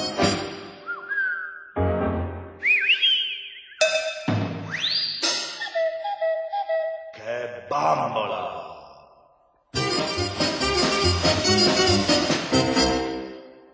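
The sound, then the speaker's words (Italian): A quick string of novelty sound effects within a song: sliding whistle tones rise and fall in short bursts, then a loud, dense metallic clatter of pans banging together runs to the end. “È sorprendente trovare all'interno di un brano musicale, non so, fischi, rumore di padelle, il cucù, qualcosa di diverso, insomma, più che una canzone sembra quasi un, non lo so, un racconto.”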